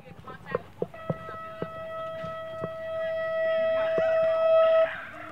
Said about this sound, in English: As the 9 a.m. bell rings at Chavez Huerta Preparatory Academy, kids make their way between small classroom buildings scattered about the Pueblo campus.